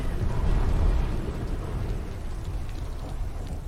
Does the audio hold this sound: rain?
yes